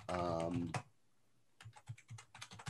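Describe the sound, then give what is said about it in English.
A brief burst of voice, a short pause, then a quick flurry of computer keyboard typing, with crisp key clicks tapping in an uneven rhythm. “No, it's not a typing soundboard effect. It's actually typing.”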